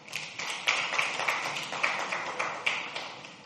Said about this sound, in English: Let's give a big hand clap to the worship team.